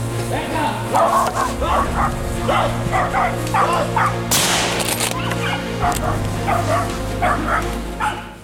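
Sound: hunting dogs barking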